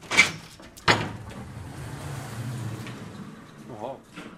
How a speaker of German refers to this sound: Zurück zu Lorenzo Schmids Anwesen. Ein Garagentor wird angehoben.